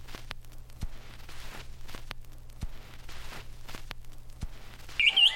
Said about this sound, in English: Do you hear that? It's a wood thrush.